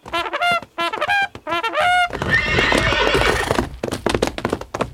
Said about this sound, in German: Brrr, anhalten! Hilfe, mein Pferd geht durch!